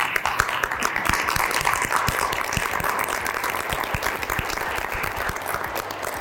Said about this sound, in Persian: خیلی متشکرم. خودتون تشویق کنیم.